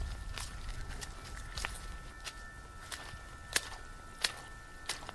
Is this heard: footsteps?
yes